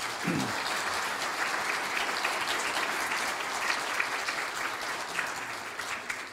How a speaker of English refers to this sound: Would you give all of our moms a round of applause today?